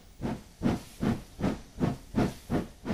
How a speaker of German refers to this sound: Wenn ich heute an meine Großmutter denke, höre ich das Schnaufen dieser riesigen Dampflokomotive.